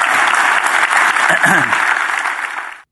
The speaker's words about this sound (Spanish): Si Dios se habló, voy a dar un aplauso al Señor, que Él se lo merece.